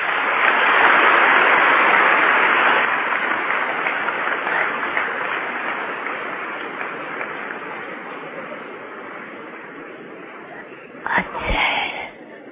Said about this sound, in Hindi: अच्छा, ताली बजाओ।